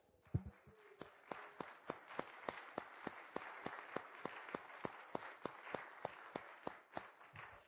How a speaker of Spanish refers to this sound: Démosle un fuerte aplauso al Señor.